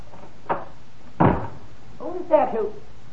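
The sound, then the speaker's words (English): An office fire-exit door opens with a short clack, then shuts with a heavier thud a moment later as someone leaves by it toward the emergency stairs; a voice briefly speaks afterward. “Oh, quickly, out that door, down the emergency stairs.”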